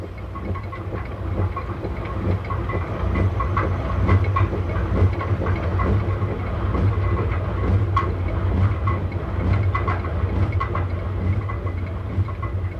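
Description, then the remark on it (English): A stream roars as it turns the millstones of the water mills of Siklis, at 8,000 feet in the Himalayas, where the stream drops 4,000 feet and 30 or 40 mills grind night and day: a steady, heavy low rumble with a constant grinding churn layered on top, continuous throughout with no voices. “You are there when you hear the roar of the stream turning the millstones of Siklis.”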